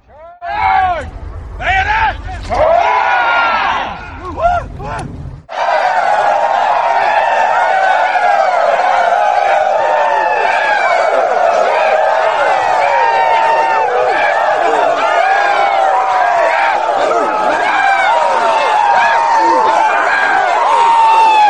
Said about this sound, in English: First, when we were up at Cedar Creek and I taught the 400 of them the proper way to do the rebel yell, we assembled ourselves to do a charge, a bayonet charge across the field.